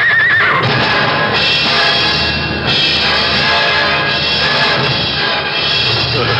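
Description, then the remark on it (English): Two hurt runaway horses with an empty chariot neigh and whinny loudly and almost without pause, their shrill cries layered over a dense, churning rumble that fills the whole stretch, agitated, with no voices. “It's empty. With 2 runaway horses. The horses are hurt.”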